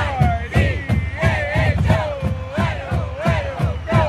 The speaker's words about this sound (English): The University of Idaho football team, the Vandals, is playing its last home game of the season. The marching band plays the fight song.